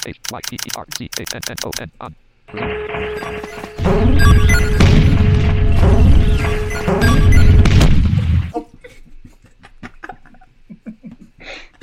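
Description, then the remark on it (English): A barrage of video game hyper cannon blasts fires in rapid succession, building into a loud, sustained rumble of overlapping explosions, then fading into scattered clicks and ticks. “But one hyper cannon is kind of boring, right?”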